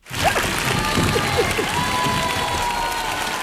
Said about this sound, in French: Mesdames, messieurs, on va donner une main d'applaudissement à M. Monette.